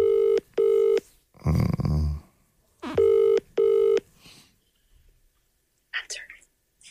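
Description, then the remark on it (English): A phone ringing tone plays over speakerphone as a call is placed to the caller's partner, in two double-burst rings, slightly tinny and fairly loud, with a breathy whisper between the rings and faint rustling afterward. “I've got her on speakerphone.”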